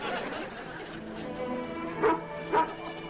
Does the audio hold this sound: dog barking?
yes